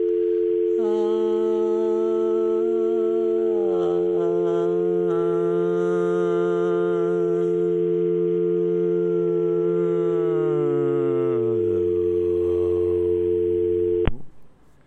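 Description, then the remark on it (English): A steady, unbroken telephone dial tone drones for about fourteen seconds beside a lower buzzy tone that slowly slides downward, then both cut off abruptly. “Let's just listen to this dial tone for a minute.”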